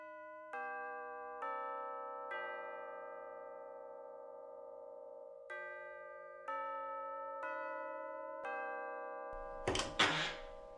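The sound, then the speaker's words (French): A mantel clock above a fireplace strikes noon with a series of bright, resonant chime tones, each ringing and overlapping the last, before a short burst of noisy clatter at the end. No one speaks. “Midi sonna à l'horloge de la cheminée.”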